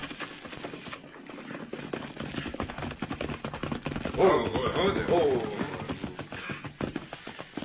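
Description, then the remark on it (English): Galloping horse hooves clatter in a rapid, uneven patter that runs the whole way through, growing louder midway where a brief harmonic cry rises over the beats before they continue, as riders come fast: Kit Carson and someone with him. “You hear, horse? Come plenty fast.”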